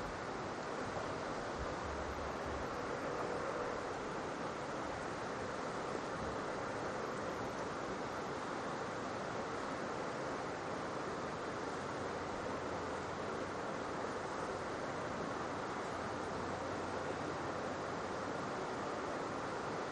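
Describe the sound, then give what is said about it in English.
Rain falls in a steady, dense hiss that holds at an even level for the whole stretch, with a soft low rumble underneath and no voices. “Let's listen to the rain.”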